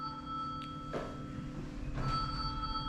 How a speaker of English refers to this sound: This is very embarrassing for you, isn't it? It's very embarrassing for you to have your phone ring in church like that.